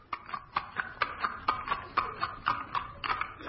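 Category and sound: animal, horse hooves clip-clopping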